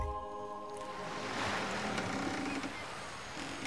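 A boat moves on the water as waves wash and surge around it in a steady, fairly loud rush, with a faint low hum at first and no voices.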